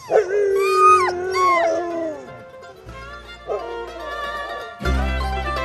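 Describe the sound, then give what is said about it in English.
A pack of Door County sled dogs, raring to go for rides, howls and yips in a wavering, overlapping chorus, with excited barks breaking in; loud, with a low rumble underneath. “I may still be recovering, but the Door County sled dogs have kept up their rides all season long, and for one last weekend, are raring to go.”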